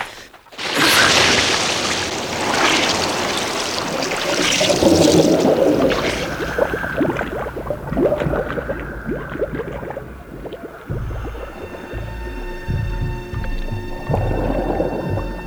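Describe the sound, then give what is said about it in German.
A loud splash as two divers, Bob and Peter, wearing diving goggles, plunge into the clear water of a reservoir gives way to a rumbling, bubbling underwater ambience with low muffled drones, continuing steadily without any voices. “Als Bob und Peter unter Wasser waren, eröffnete sich ihnen eine neue Welt.”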